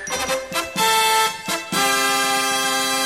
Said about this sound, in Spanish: ¡Música de pregunta! Venga, música...